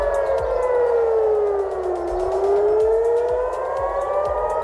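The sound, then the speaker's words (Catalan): Air raid sirens in Tel Aviv, Israel, sounding during Iranian attacks, wail steadily, their pitch sliding down and then rising again in a long sweep, loud and sustained, with low rumbling thumps underneath and no voices. “Han tornat a sonar les sirenes per atacs iranians”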